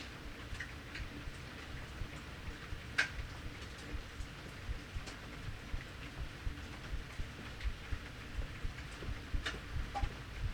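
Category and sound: nature, rain falling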